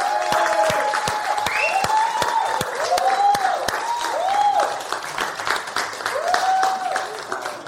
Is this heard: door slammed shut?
no